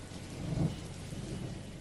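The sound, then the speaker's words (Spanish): Heavy rain pours down at night in a steady, dense hiss, with a low rumble of thunder swelling briefly partway through. No voices are heard. “Joder, que estaba cayendo, tronco.”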